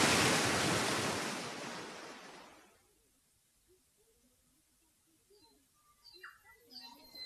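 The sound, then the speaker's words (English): A loud, broad rush of storm wind and crashing surf roars for nearly three seconds, then fades away, leaving near quiet with faint voices and small scattered sounds. “Wow! What a storm! Here it comes!”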